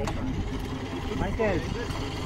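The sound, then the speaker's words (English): A dive boat engine drones steadily, a low, uneven rumble running throughout, apparently with slight engine problems, while the boat is loaded with equipment and air tanks for divers; a brief indistinct voice rises over it midway. “And they appear to be having slight engine problems, so let's hope that doesn't cause any trouble.”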